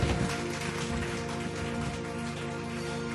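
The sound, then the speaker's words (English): An audience claps steadily to bless the name of the Lord, a dense, even patter of many hands at a constant loud level with a faint sustained tone running underneath and no voices. “Clap and bless the name of the Lord.”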